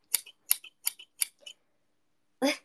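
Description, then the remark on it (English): Slightly rusty scissors snip a plant four times in a quick, even rhythm, each cut a sharp metallic crunch with a faint follow-up click, then a pause before a louder, rougher snip. “These scissors are a little rusted because I haven't used them in a while.”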